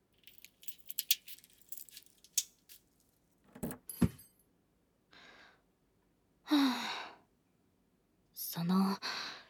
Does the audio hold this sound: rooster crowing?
no